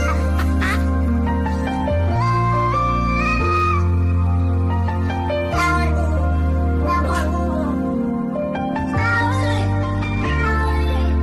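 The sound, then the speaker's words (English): Meows from several different cats, auto-tuned into a sung melody, ride over a steady pop backing track with deep bass, the tuned meows rising and falling continuously and loudly throughout, with no talking. “And someone has taken this is all the cats, different cats, all auto-tuned.”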